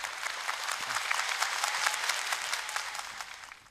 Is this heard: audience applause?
yes